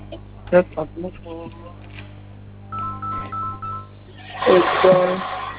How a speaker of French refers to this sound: Je vais vous communiquer le code pour désabonner cette de cela. Vous composez le code étoile 500.